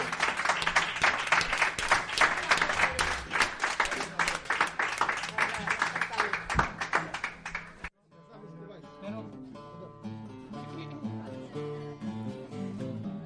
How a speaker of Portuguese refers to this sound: Despois destes aplausos, como vedes, a xente quere seguir escoitándovos.